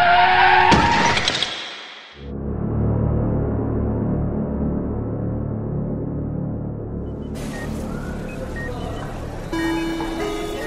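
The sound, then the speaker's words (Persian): A car horn and a loud screech of car brakes and tires in the middle of a street in the first two seconds, followed by a heavy, steady mechanical rumble with a brighter hiss returning near the end. “اصلا حواسم نبود که وسط خیابونم و بعدش فقط یادمه که صدای بوق و جیغ ترمزه ماشین.”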